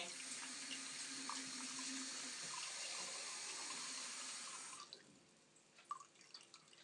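water running

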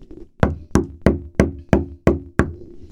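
knocking

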